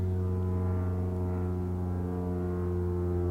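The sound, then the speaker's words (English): A small propeller plane drones steadily overhead, its low buzzing engine hum holding an even pitch and level throughout, with no voices. “Maybe you can hear the little plane flying overhead.”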